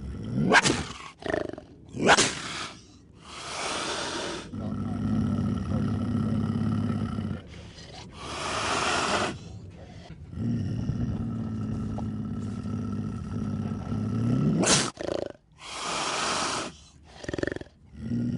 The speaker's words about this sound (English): That's a Florida panther. His name is Duke, and he's a really big cat, about 130 pounds and 6 feet long.